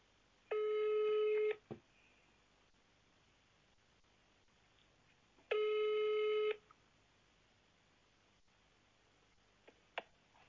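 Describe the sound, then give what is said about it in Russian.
A phone line rings out with two steady electronic ringback tones as a call is tried again after a busy line. Each tone is about a second long and spaced several seconds apart, with faint clicks in between and no one speaking. “Сейчас я еще раз попробую.”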